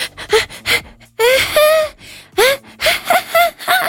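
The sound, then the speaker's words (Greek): A voice imitates the sleepy gasping and moaning breaths a woman makes in her sleep instead of normal snoring: a string of short breathy gasps followed by drawn-out, rising moans, fairly loud, with brief pauses between them. “Το μόνο που κάνω και ακούστε ρε παιδιά να μου πείτε, η γυναίκα σας ροχαλίζει κανονικά ή κάνει αυτά τα.”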